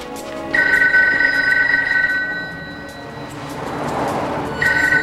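A telephone rings with a steady electronic trill, one long burst followed by a pause and then the start of another, loud over a low rumbling background. No one speaks.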